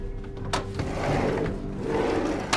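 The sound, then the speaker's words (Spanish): The back door of an apartment opens as a woman flees, with a sharp click of the latch, a drawn-out scraping, wooden movement, and a second knock as it settles. No one speaks. “Linda Parker huyó por la puerta trasera”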